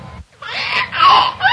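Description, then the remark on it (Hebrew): A young girl cries and whimpers in a brief, wavering burst, the whiny sobbing rising after a short pause and staying loud to the end. “את בוכה. תקשיבי, מי באמת בוכה?”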